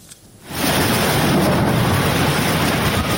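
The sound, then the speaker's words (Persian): Heavy rain pours down steadily after a brief quiet start, a dense, loud hiss with a low rumbling undertone, with no voices. “باران، هر قطره‌اش حیاتی است.”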